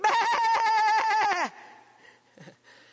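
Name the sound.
sheep bleating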